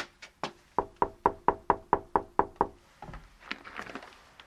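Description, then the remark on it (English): A brisk series of about a dozen sharp knocks on the wooden door of a cottage in a heritage village at Killinard, County Laois, evenly spaced, followed by faint rustling and shuffling sounds. “And I'm going to just knock on the door of one of them.”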